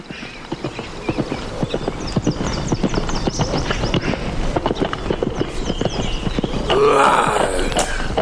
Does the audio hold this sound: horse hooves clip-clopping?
yes